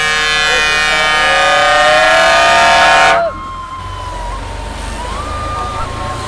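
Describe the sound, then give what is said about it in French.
A passing vehicle sounds its horn in solidarity with protesters at a roundabout, one loud, sustained blast lasting about three seconds, then it cuts off abruptly, leaving street noise and faint murmuring voices. “Il y a un qui passe, qui klaxonne.”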